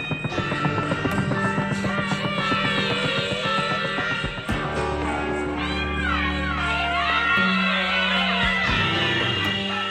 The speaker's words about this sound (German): Man ist mit ihr im Dschungel, so detailliert ausgearbeitet ist die Soundkulisse. Hubschrauber, Grillenzirpen und schreiende Menschen.